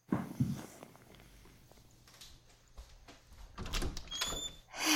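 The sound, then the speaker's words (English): Clicks and rattles of a door lock being unlocked, followed by a louder clunk and a brief high squeak as the door swings open. No one speaks. “I don't know why you keep locking your door anyway.”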